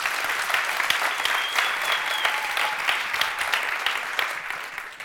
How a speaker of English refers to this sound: Was that quite Swiss for people to clap? Est-ce que c'était normal pour les Suisses d'applaudir? No, it's not normal. Not normal. It's not Swiss. We like that.